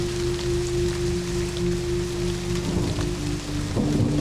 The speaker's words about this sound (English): The rain hammers down.